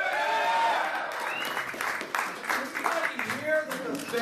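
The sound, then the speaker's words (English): An audience in Des Moines bursts into applause for Senator Rand Paul of Kentucky's line about auditing the Fed, a dense patter of clapping with scattered whoops and shouts over a murmuring crowd, fairly loud and sustained throughout. “Senator Rand Paul of Kentucky came before an audience in Des Moines earlier this month with what might prove to be a reliable applause line as he stumps for his expected run for president.”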